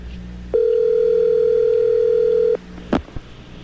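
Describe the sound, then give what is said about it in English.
A telephone line, calling Tiger Woods at the house he rents, sounds one steady, mid-pitched tone that holds for about two seconds and then cuts off, followed by a brief clatter like a handset or button. “And we've got a number for Tiger, so let's call him.”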